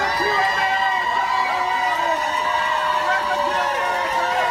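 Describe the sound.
A large crowd in Dallas shouts and cheers continuously as it welcomes some released immigrants, many overlapping voices forming a loud, dense roar with excited whoops rising throughout.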